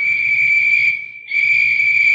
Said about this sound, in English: Hear the whistles, Delaney? Artie, I heard them when you whistled, too.